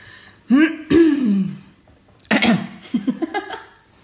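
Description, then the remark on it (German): A person clears their throat: a couple of low, groaning vocal pushes, then a harsh raspy hack, ending in a quick run of short, choppy throat sounds. “Du kannst dich schon mal gleich räuspern, aber noch nicht.”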